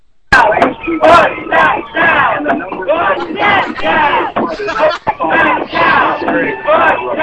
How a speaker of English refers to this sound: They're yelling this at the building as the... Yeah, they sound pretty satisfied with his performance.